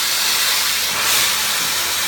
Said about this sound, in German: Die Lösung sind Wasserstrahlen mit einem Druck von bis zu 3000 Bar. Sie sind extrem dünn, schneiden sauber durch Kunststoff und Holz und nehmen dabei noch den Staub auf. Das Ganze klingt dann wie ein riesiger Kercher.